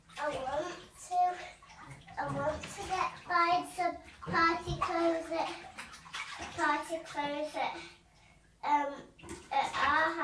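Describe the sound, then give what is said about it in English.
Bathwater sloshes and splashes softly in a tub as a child lies back to rinse soap and bubbles off their body, mostly under a child's chatty, high-pitched talking that runs nearly the whole time. “Go lie back and wash all that soap off your body.”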